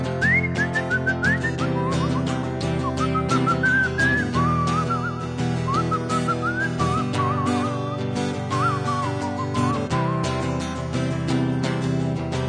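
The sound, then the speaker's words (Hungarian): A gentle, soft whistled tune wanders up and down through a song's short refrain, carried continuously over a steady instrumental backing, with no one talking. “Különben is olyan volna, amit csak fütyülni kéne halkan. Például így.”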